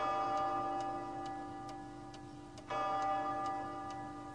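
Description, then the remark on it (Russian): Clocks ticking in a steady, even rhythm, with sharp ticks about twice a second over a soft, sustained humming background. No one speaks. “«Все мои часы хорошо идут, поэтому я ничего против этого не имею».”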